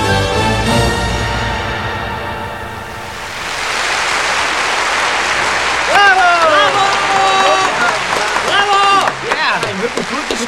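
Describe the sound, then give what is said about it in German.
A theatre audience at a stage show breaks into loud, sustained applause that swells into a dense wash of clapping, with excited voices and cheers rising over it in the second half. “Und das Publikum feiert”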